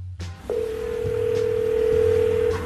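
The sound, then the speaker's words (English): A telephone line sounds a single steady electronic tone for about two seconds as a call goes unanswered, unbroken and fairly loud, over a faint low background hum, with no voices. “She didn't pick up the phone.”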